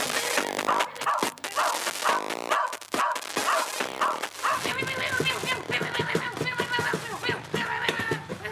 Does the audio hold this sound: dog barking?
yes